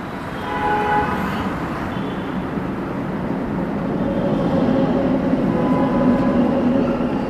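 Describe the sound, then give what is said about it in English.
A speeding metro train rumbles loudly overhead across a railway bridge above children's heads, a sustained roar of wheels on track with tonal squeals, building steadily for several seconds. “Every 8 minutes, a speeding metro train travels over the railway bridge above the children's heads.”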